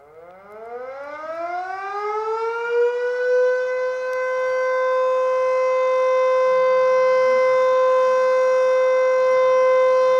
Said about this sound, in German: Die haben auch eine Sirene, die Österreicher und Österreicherinnen. Wir haben die hier. Ich spiele die mal ganz kurz, aber ganz kurz nur ein. Das ist diese hier.